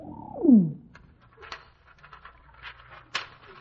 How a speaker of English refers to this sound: this pigeon's carrying a message. Hold still, Bertie. Hold still now while I get it out.